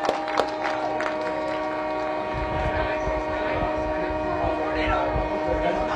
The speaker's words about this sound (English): Sounded like a loud horn just went off. By Tiller. Sounded like a train horn.